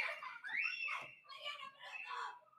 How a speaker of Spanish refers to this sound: Dios mío. ¿Escucharon los gritos? Ok, bueno, ya. Están gritando.